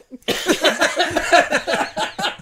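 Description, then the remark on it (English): Someone does a spit take, sputtering and coughing after choking on a drink, a loud burst of wet, choppy exhalations that keep stuttering for a couple of seconds. “That was a spit take, not a corona cough.”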